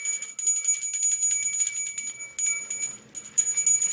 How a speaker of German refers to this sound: Der ist häufig am Handy oder spielt mit meiner Glocke, die ich letztes Jahr zum Dichten bekommen habe.